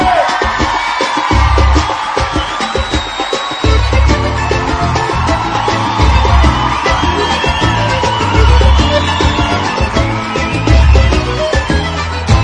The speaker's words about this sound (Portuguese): deu grito da galera, vem!